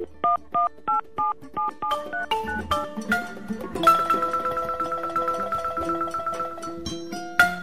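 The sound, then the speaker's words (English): Satellite phone dialing tones while calling the crew on board the Plastiki at zero latitude, 160 degrees west: a quick, evenly spaced run of short two-tone beeps, then a busier cluster of overlapping electronic tones settling into a steady, buzzing line signal. No voices. “Hang on, we'll try and reach the crew on board by sat phone and get the answer.”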